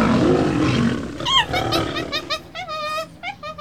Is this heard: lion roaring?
yes